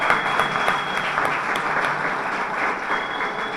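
Sustained applause from an audience fills the space with dense, steady clapping at a fairly loud level, continuing evenly throughout without fading, and no voices stand out above it.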